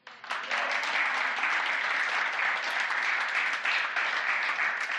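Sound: audience cheering and applauding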